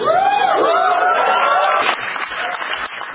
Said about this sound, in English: Your applause is disturbing.